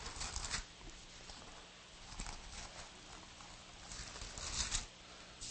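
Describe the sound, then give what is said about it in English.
Soft, papery rustling of many thin Bible pages being turned at once to 2 Corinthians chapter 5, a shifting wash of crinkly flutters that swells in a few brief bursts, with no voices. “I love the rustling of biblical pages because it makes the devil nervous.”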